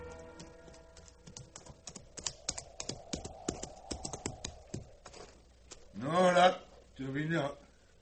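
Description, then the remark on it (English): The hooves of a ridden horse clip-clop in a steady, uneven rhythm for several seconds, drawing nearer over a low background hum, then stop as two short bursts of a loud voice follow. “let him get off his horse and speak the English he learned in mission school.”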